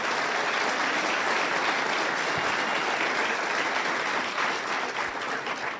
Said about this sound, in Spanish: Ok, fantástico. Yo les quiero ofrecer un aplauso a ustedes también.